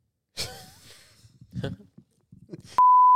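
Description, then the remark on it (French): A person talks briefly, then a loud, steady high-pitched censor bleep cuts in and holds as a flat continuous tone through the end, masking the spoken name of a church. “On va biper le nom de l'église, mais c'est ça, cette église-là.”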